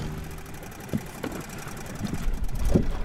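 A small boat's motor hums steadily as it crosses a river toward a fish wheel, a low rumbling drone with a few soft knocks and thumps as it moves across the water. No one speaks.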